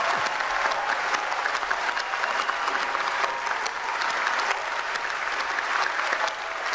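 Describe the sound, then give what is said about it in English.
Sustained applause from a large crowd at the COP climate conference as the Paris Agreement is adopted, a dense, steady wash of many hands clapping at an even loudness throughout, with no voices standing out. “Everything's clapping, all right.”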